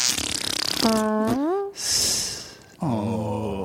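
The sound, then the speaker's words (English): A couple of loud, close-up fart noises made with the mouth, each a buzzy, pitch-bending blast, with a noisy breathy burst between them and no talking. “Should we end with a round of fart noises?”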